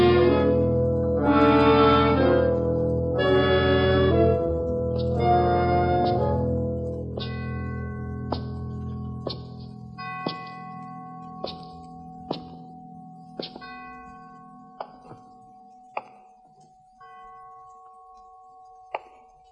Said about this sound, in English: What does the bell mean?